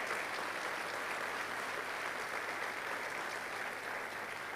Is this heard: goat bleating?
no